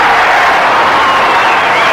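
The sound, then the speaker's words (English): A large crowd at Wrigley Field in Chicago roars and cheers for radio station WGN in a steady, dense wash of noise that stays loud and unbroken for the whole two seconds, with no single voice standing out. “In an effort to show its appreciation, the city of Chicago has turned out to cheer its favorite radio station, WGN.”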